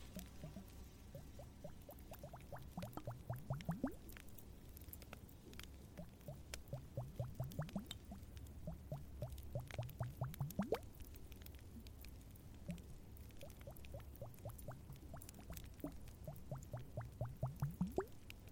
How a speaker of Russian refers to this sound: есть для тебя очень расслабляющий триггер – колбочки с водой.